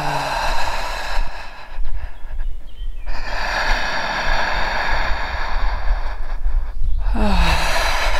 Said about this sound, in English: Feel your heart, feel your lungs expanding every time you inhale. And every time you inhale even deeper. Breathing through your mouth.